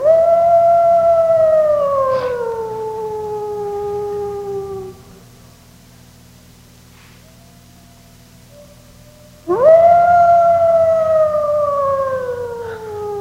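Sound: wolf howling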